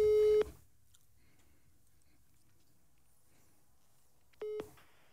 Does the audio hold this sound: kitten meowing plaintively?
no